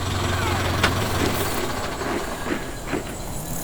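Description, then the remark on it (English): A staff car, the Commander-in-Chief's car, pulls up and its engine rumbles steadily at a low idle, with a faint mechanical clatter and a few soft knocks over the drone. “That looks like the Commander-in-Chief's car.”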